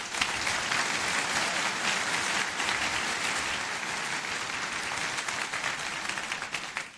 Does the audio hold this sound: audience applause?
yes